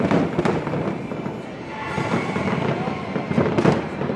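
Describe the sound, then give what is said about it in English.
Independence Day celebration fireworks crackle and pop in a dense, continuous barrage, with sharp louder bangs standing out around the start and near the end against a rumbling outdoor background. “On this side of the ocean, Independence Day celebrations rang from coast to coast.”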